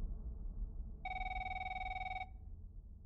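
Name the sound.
telephone ringing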